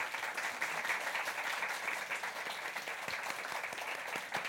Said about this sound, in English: A big round of applause.